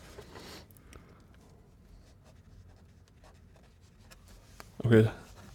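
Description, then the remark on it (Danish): Soft scratching of a pen writing notes on paper in short irregular strokes, fairly quiet, with a person briefly speaking near the end. “Så jeg skriver lige ned her. Ja, jeg skriver også ned her.”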